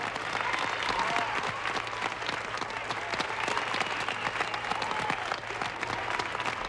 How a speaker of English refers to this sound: The Eagle has landed. There's a cheer in this room.